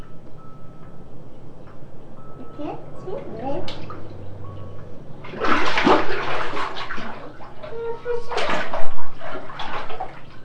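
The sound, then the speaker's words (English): Shower water runs and splashes into a bathtub where a child is showering, swelling into louder gushes partway through, with the child's soft vocal sounds mixed in over the room noise. “You want to get out of that shower?”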